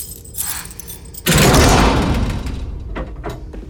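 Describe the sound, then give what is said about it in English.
Keys, brought out of a woman's trousers, jingle softly in a lock as she lets herself into a cell, then a heavy metal cell door loudly grinds open, its rumble fading before a couple of sharp metallic clanks. No voices. “She lets herself into Melanie's cell.”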